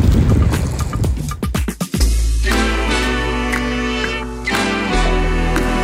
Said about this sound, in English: But the beauty of this place, the sound of the water, the boats. Yeah, I love this place.